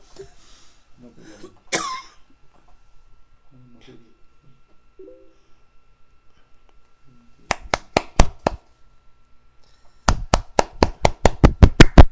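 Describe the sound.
Muffled talking and a cough early on, then a short burst of five sharp, evenly spaced hand claps, a pause, and a louder, steady run of about nine more claps.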